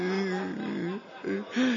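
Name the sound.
person whimpering and crying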